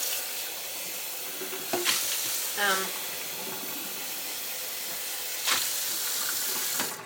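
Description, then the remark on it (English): Filtered water runs steadily from a tap, a constant hissing rush that lasts the whole time, broken by a few soft knocks and a brief rising squeak partway through. “turning on the filtered water.”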